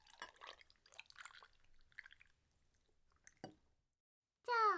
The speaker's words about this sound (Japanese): はい、じゃあ氷も足しますか？いいですよ。はい、どうぞ。お茶も注ぎます。